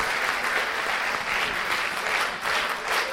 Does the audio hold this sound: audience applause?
yes